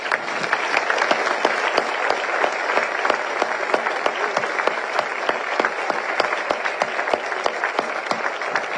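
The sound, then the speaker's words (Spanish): A crowd applauds steadily for several seconds to honor a man, a dense wash of many hands clapping at an even, sustained loudness with no voices standing out. “quiero, si me permitís, un aplauso entre todos en honrarte”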